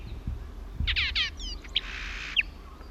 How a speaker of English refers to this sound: Horsfall Blackbird, Isla Victoria, 13th December 77.